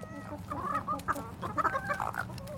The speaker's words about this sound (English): Oh, yeah, that's a new one. And that's all our little chicken family.